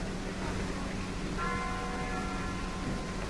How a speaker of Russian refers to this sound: Вы слышите, бьют часы, встречая выехавшего из ворот Спасской башни товарища Тухачевского.